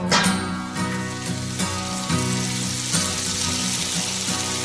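Food sizzles and crackles steadily in a hot frying pan, fairly loud, with a low tonal hum underneath and periodic soft thumps.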